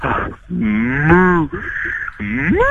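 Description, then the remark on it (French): A person imitates a cow, giving three loud, drawn-out moos in quick succession, each voice bending and sliding in pitch, with no other sounds around. “Je veux un dernier cri de vache, mais je vais te voir.”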